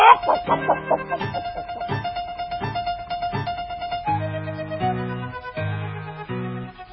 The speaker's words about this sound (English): Chickens, chickens.